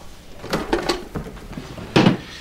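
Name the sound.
desk drawer opening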